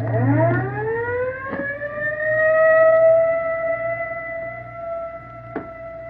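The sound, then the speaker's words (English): An ambulance siren winds up and holds a loud, steady wail over a low engine rumble, with a couple of brief knocks along the way and no talking. “Johnson's in the ambulance.”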